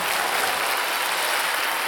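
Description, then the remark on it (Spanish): An audience applauding for the Lord, a steady, dense wash of many hands clapping at once, sustained and fairly loud throughout with no individual claps standing out and no voices. “Ponga sus manos juntas y dale un aplauso al Señor.”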